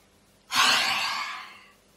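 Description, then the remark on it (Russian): A single deep, drawn-out inhale, clear, starting with a sharp onset and slowly tapering off over about a second and a half, with no talking, taken during a breathing exercise after a breath hold. “Итак, дальше делаем глубокий вдох.”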